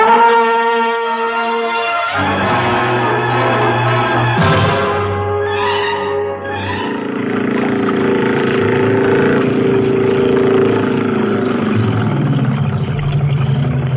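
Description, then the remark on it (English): An outboard motorboat engine runs with a loud, steady low drone for the whole stretch, and ringing tonal sounds are layered over it. No one speaks. “I'm going down for the outboard.”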